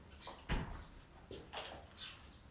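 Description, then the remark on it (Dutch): The door of a dusty office being opened: a soft thud followed by a few light clicks and rattles over about two seconds, fairly quiet, with no one talking. “Want op een of andere manier, ik ga ook even de deur openzetten.”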